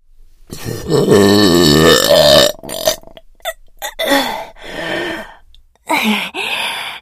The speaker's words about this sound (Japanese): かぁ、やっべ、画面揺れちゃうくらいの爆音ゲップでちった。